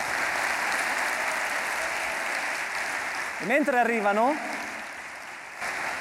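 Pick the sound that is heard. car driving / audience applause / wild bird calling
audience applause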